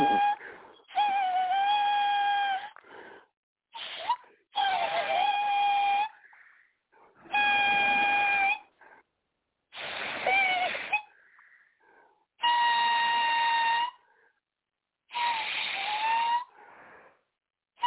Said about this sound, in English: Hey man, that damn thing playing the damn flute, man. I don't give a damn fuck him in that flute. I hope it play the flute until his damn voice, till it can't blow no damn more.